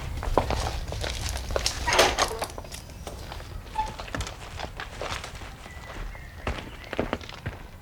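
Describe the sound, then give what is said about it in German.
Steady footsteps crunch along at a walking pace, with a brief louder rustle and scrape partway through as someone passes through a mouldy wooden garden gate at a small house in a quiet residential area of Pacific Palisades; no one speaks. “trat durch ein modriges, hölzernes Gartentor und klopfte an die Tür.”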